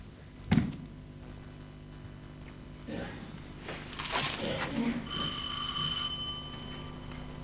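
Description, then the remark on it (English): A doorbell rings once with a bright, sustained electronic tone lasting about a second, following a sharp knock-like thump and some shuffling movement. “I'll get the jam, you get the door.”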